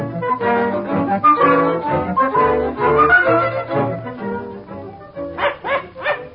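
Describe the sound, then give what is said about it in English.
A dog barks loud and insistent: a rapid, continuous run of barks and yips, ending with three sharp, separate yaps. “Oh, dear, they would have a dog.”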